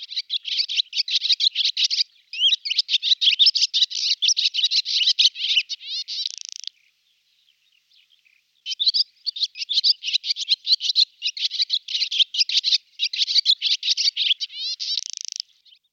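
A swallow's song: a rapid, chattering jumble of sweet twittering notes delivered in long bursts, pausing briefly before resuming, bright and high-pitched with no voices present.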